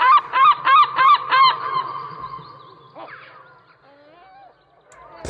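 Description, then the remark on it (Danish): A gull, a bird common in cities, calls loudly, a rapid burst of about five harsh, nasal cries, followed by quieter trailing calls and fainter bird sounds in the background. “Det var først en måge, Og så her er det en due.”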